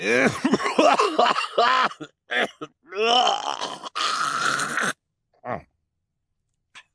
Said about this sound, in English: Mr. Poe paused to cough into his white handkerchief again.